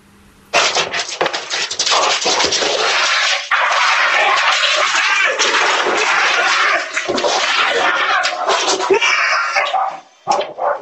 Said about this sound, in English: The barking doggies, they race for the screen door, the bear charges in,